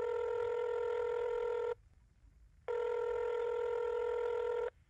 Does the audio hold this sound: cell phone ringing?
yes